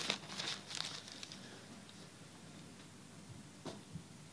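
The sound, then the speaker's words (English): Pages of a newspaper rustle and crinkle in a quick cluster of soft handling sounds at the start, then quiet until one more brief rustle near the end. No one speaks. “And I just saw this in yesterday's paper, actually.”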